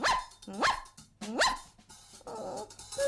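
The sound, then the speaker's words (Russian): A dog barks twice in quick succession, loud, each bark sharp with a rising yelp, followed by softer growly rumbling and a brief whine. No one speaks. “Кроме собаки.”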